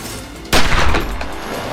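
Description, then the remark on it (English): A sudden loud burst of gunfire erupts after a moment of quiet, a sharp shot followed by rapid reports and echoing reverberation that lingers harsh, as police fire at a violent suspect in Pascagoula, Mississippi. “Shots fired, radio shots fired.”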